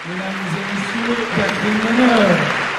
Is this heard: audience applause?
yes